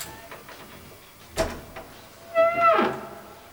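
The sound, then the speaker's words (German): A sharp metallic clack as a chain is hung on a front door, then a drawn-out creaking as the door is opened slowly and carefully, with a little faint clicking before it. “Heike hängte die Kette vor die Tür und öffnete sie dann vorsichtig.”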